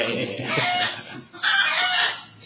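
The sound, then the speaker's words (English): Several chickens squawk and cluck loudly, their harsh calls overlapping in two bursts with a brief dip between, no one speaking over them. “Do you know why these chickens are there?”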